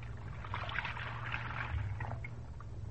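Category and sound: household object, water sloshing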